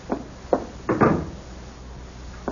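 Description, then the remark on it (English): Two quick knocks on a door by a porter bringing a package, followed by a louder, longer rattle and creak as it's unlatched and swung open, then quiet room tone with another faint knock at the end. “Someone's at my door.”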